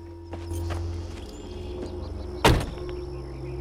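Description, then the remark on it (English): A low engine hum runs steadily while a man, pulled up next to an old trailer in the countryside, gets out of his car, with soft rustles and creaks, then one sharp thud as the car door shuts. No one speaks. “Syla pulls up next to an old trailer in the countryside and gets out of his car.”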